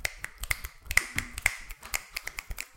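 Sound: finger snapping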